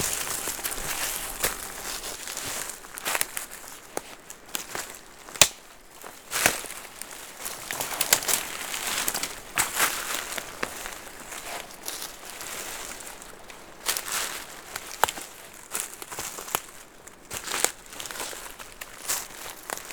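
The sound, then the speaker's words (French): Footsteps crunch steadily through dead leaves and dry twigs while climbing a steep slope southward through a forest toward meadows, with sharp crackles and snaps at irregular intervals, fairly loud, with no voices. “Des feuilles mortes. Du bois sec”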